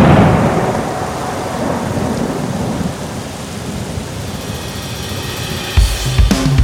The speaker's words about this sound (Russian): В небесах ты услышишь грома раскат.